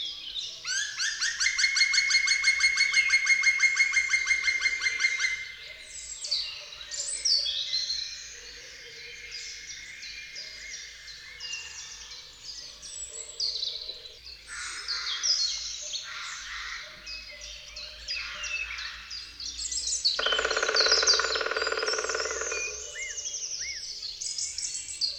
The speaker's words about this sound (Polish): Jeżeli ptak nie usłyszy odpowiedzi rywala, jego następna piosenka jest spokojniejsza. Dźwięk w drugiej połowie opada.